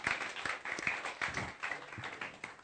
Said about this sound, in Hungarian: Még egy nagy tapsot minden hármótoknak. Köszönöm szépen a segítséget.